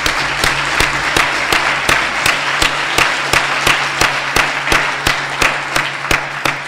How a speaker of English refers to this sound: So once again, thanks for you guys all coming here. Let's give Fabi another round of applause for the great job he did this year.